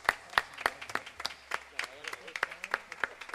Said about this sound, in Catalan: Aplaudiment per a ella.